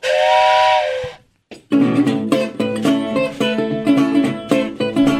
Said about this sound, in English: Hey, you hear that train coming